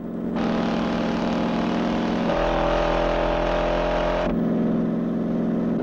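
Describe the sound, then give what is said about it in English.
A car engine roars steadily and loudly throughout during a car chase on a semi-rural road, its pitch dropping into a deeper drone midway before rising again as it revs hard, with no voices present. “The driver of the sedan pulls out to overtake on a bend.”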